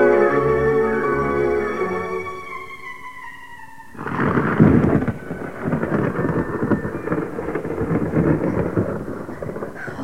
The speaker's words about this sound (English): One of the best storms we've had for ages.